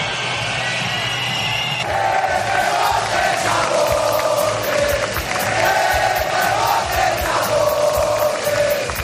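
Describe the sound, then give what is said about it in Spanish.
A large crowd at an armed forces parade in Spain boos and whistles at acting Spanish prime minister Pedro Sánchez, a dense continuous roar of jeering voices with shrill whistles cutting through, growing louder after the first couple of seconds and staying loud throughout. “Y todo ante la atenta mirada de los reyes y de la princesa Leonor, que ha presidido un desfile que, desgraciadamente, un año más ha estado marcado por los abucheos al presidente del gobierno en funciones, Pedro Sánchez.”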